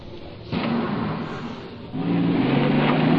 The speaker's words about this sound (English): And the cab sped away to my hotel.